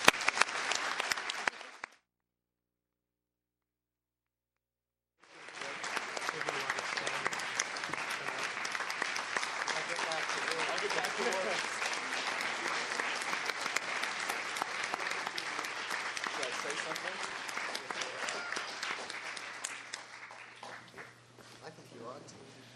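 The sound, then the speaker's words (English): A short burst of clapping stops for a few seconds, then an audience breaks into loud, dense applause honoring a colleague, holding steady for over fifteen seconds before tapering off. “please join me in applauding a great colleague and friend.”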